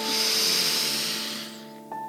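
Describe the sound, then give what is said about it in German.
A long, slow breath out during a guided breathing exercise, a soft airy hiss that gradually fades over about a second and a half, over a steady humming tone in the background. “Lass uns einatmen. Und wir atmen aus.”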